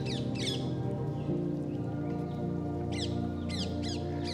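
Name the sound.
birds chirping and singing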